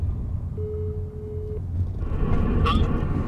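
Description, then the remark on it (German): A single steady phone ringback tone sounds for about a second as a call is placed from inside a car, clear and moderately loud over the low rumble of the car interior. “Ich ruf mal an.”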